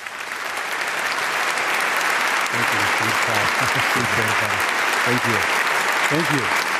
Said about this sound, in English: Ladies and gentlemen, a big round of applause for Thomas Friedman.